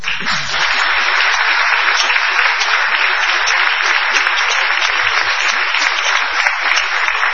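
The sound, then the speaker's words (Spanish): A crowd claps steadily for several seconds as a demonstration of what applause is, a dense, even wash of many hands with no voices rising above it. “Vamos a aplaudir para... como muestra.”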